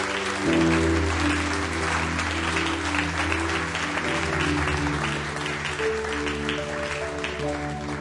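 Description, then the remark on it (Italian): An audience applauds Jesus loudly and steadily for several seconds to give him glory, the dense clapping layered over sustained organ or keyboard chords, with no speech. “Facciamo un applauso a Gesù, diamogli gloria.”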